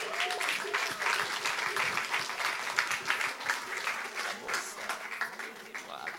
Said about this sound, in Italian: Vi chiederei di fare un grandissimo applauso, ritorna sul palco a raccontare